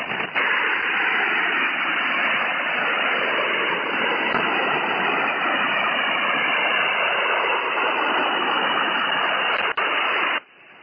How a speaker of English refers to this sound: Now we will play a few examples of our jamming signals. Light noise.